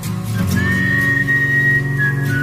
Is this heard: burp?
no